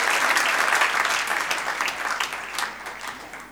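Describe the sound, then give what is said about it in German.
An audience claps for one another, for simply being there, in a dense, steady burst of applause that gradually thins and softens over a few seconds, with no voices standing out. “Geben wir uns doch gegenseitig einen Applaus, dass wir da sind.”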